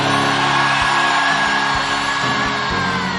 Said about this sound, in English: And everyone shouted your loudest amen.